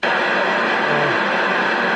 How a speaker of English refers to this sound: Sorry. Yeah, that's the pink noise. That sounded very pink to me. Operator pressed the wrong button.